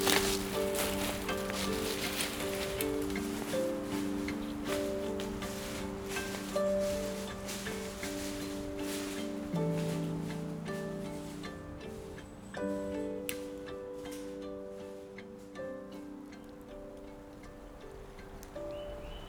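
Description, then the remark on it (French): Wind rustles steadily through leaves in a quiet mountain forest in a continuous soft hiss, with scattered small clicks and a low sustained humming tone beneath, no voices. “Jeu de vent dans la forêt silencieuse.”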